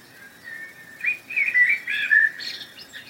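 Birds sing and chirp in a forest on a cool day with sun filtering through the trees, a flurry of bright, overlapping whistled notes rising after a quiet start, over a soft, steady background hush.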